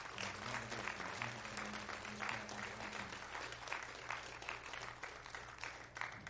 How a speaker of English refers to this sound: Could we give them just a hand clap tonight of thanks?